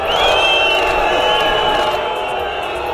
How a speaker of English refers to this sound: French ministers have been booed as they arrived in Nice for a minute's silence in memory of the 84 people killed in last week's terror attack.